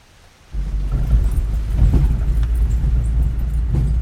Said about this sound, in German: Am nächsten Morgen fahren wir mit dem Transporter zu den Sammelplätzen, holen die Kakaofrüchte und bringen sie zum Hauptsammelplatz. Die Strasse ist voll Schlaglöcher. Der Regen hat sie noch mehr ausgewaschen.